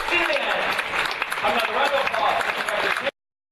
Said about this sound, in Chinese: 美国神韵纽约艺术团1月15号晚上在纽约林肯中心的演出达到高潮，满场观众以经久不息的掌声表达内心的感动。